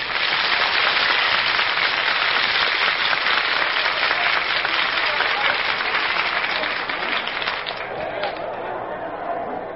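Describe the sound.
A big baseball stadium crowd waiting for the game to start cheers and applauds in a dense, steady roar of clapping and voices that fills the whole clip, easing off only slightly near the end.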